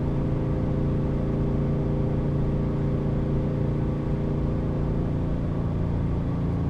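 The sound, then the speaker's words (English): A car engine drones steadily at about 3,500 rpm going up a little hill, a loud, continuous low hum with strong harmonic tones, cruising at highway speed from inside the cabin with both windows up. No one speaks. “I can't imagine revving this on the highway all the time.”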